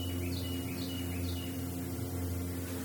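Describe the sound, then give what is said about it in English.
Distant wild turkey hens calling to the north and east, a faint series of repeated high notes carrying over a steady low outdoor rumble, with no voices present. “Now we're picking up hens to the north and east, and I'm turning the mic around.”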